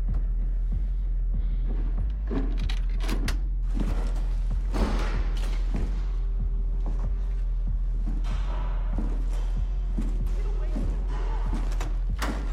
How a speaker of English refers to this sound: Doors are locked and chains put on as Dredd passes by.